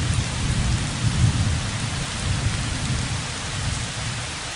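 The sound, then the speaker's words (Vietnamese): Heavy rain pours down steadily in a dense, unbroken hiss on a sandy beach by the sea where tents are being packed up, with deep rumbling thunder rolling underneath throughout. No voices are heard. “Chỉ còn cách độ 10 bước nên chúng tôi vội vã thu dọn lều chõng trong khi cơn mưa đang trút xuống tầm tã.”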